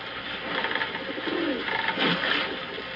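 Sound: birds calling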